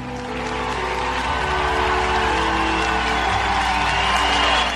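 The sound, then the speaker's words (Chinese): An audience applauds warmly after Lincoln's speech: steady clapping for several seconds, a dense, continuous wash with scattered cheers mixed in and a low rumble underneath, holding at a fairly loud level throughout. “林肯讲话结束之后，听众好几分钟热烈鼓掌，然后开始散去。”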